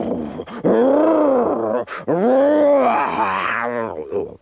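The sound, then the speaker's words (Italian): A human voice imitates a tiger roaring ferociously as it leaps out from behind a tree: two long, loud, rising-and-falling growling groans, with a brief pause between them. “Così, il giorno seguente, quando vide che Sudi stava arrivando, balzò fuori da dietro un albero e ruggì ferocemente.”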